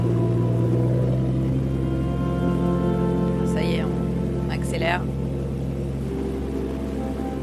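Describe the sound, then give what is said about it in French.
Water streams and splashes down in heavy drops from a hauled fishing net as workers pass underneath it, a steady hissing patter over a loud, constant engine drone, with a couple of brief squeaky chirps midway. “parce qu'en fait, ils passent dessous, sous le filet qui laisse échapper plein d'eau à grosses gouttes.”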